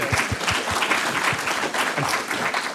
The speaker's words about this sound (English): I'm sorry I interrupted the applause there.